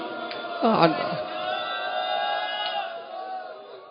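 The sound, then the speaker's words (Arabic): A crowd of mourners cries out together for al-Hasan, many voices merging into a loud, sustained wail that surges early on and then holds steady and dense for the whole few seconds. “الليلة أريد من عندك صرخة مثل صرختك على الحسين، لأن يمكن يوم عاشر لو ما صرخت على الحسين في عند زوار أبو علي في كربلة تصرخ عليه.”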